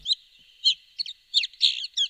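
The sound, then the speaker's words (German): A red-backed shrike, a harmless insect-eating bird barely the size of a thrush, gives a series of short, scratchy chirps in quick irregular bursts, fairly loud, with brief pauses between calls and no talking. “Der Vogel, den Sie hier hören, hat den schaurigen Namen Neuntöter, ist aber ein harmloser, kaum drosselgroßer Insektenfresser.”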